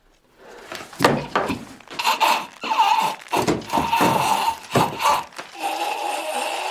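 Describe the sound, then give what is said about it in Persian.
Creaking and straining of a taut rope tied around a person's neck, broken by several heavy thuds and scuffs as the rope gives way and the person drops and hits the floor. “تناب کنده میشه.”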